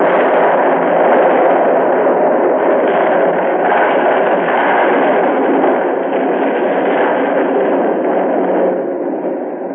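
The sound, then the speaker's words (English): A small white clapboard building explodes as a car passes it: a loud, sustained explosive roar rumbles continuously for about ten seconds, dense and powerful throughout before easing slightly at the very end, with no voices present. “reacted purely instinctively, shoved hard on the accelerator, but by the time that explosion really took hold, I was almost past it.”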